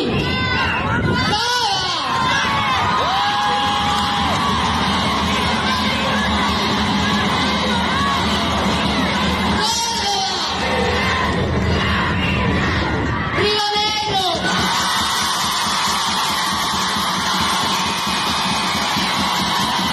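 A large crowd cheers and applauds loudly and continuously, with shouts and whoops rising out of the dense roar of clapping, voting by applause meter to choose Río Negro province as host of the next plurinational meeting.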